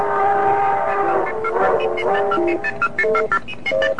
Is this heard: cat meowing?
no